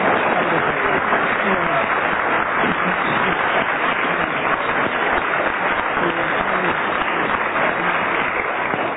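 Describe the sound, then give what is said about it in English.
An audience applauds steadily for about nine seconds, a dense, even wash of clapping that holds at the same fairly loud level throughout, with some crowd voices mixed in. The audience is voting by applause on whether contestants gave a rational explanation for what they were alleged to have done. “Will you decide by your applause whether you think that they gave a rational explanation for what they were alleged to have done?”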